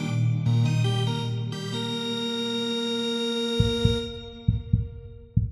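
A heartbeat sound effect: deep, muffled thumps in lub-dub pairs start halfway through, beating steadily while a sustained electronic chord fades out beneath them.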